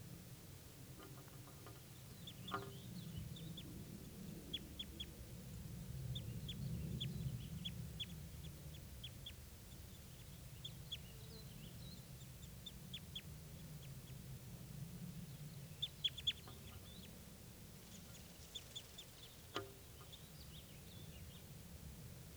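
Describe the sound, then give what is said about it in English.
Short, high-pitched bird calls and chips come in scattered bursts from two birds, a male and a female foraging in aspens, fairly faint, over a steady low rumble of background noise, with no one talking. “Start recording, these are the birds.”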